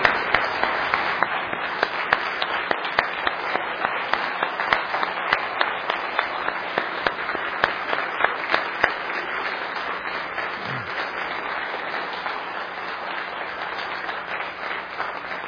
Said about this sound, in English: Let's give this choir and all of these folks another big round of applause, shall we?